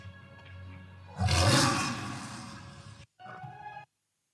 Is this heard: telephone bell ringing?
no